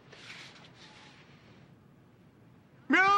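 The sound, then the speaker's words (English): A sudden, loud, strained cat meow bursts in at the very end, following a few seconds of quiet, soft background noise. “What's with your cat?”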